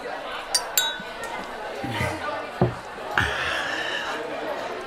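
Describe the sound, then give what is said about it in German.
Champagne glasses clink together in a toast, two or three bright, quick chimes near the start, over a steady murmur of people chatting in the background. “Darf ich Sie ein Glas Champagner entladen?”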